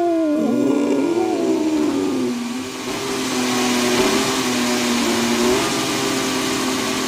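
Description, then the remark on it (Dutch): A Mercedes-Benz W14 Formula 1 car engine fires up and holds a loud, high-pitched buzzing drone for several seconds, its pitch dipping and wavering slightly as it revs, with no voices. “Maar ja, de auto van Mercedes is in ieder geval... Er zit een motor in. Die hoor je, Lewis.”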